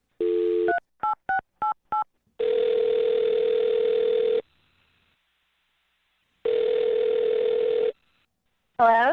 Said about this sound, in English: All right, I'm going to dial her number right now.